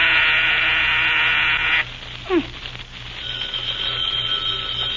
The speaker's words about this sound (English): Mr. President, this is Colorado. The mayor was getting ready to make a speech, but you pressed the buzzer too soon.